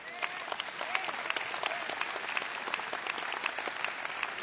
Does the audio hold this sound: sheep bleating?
no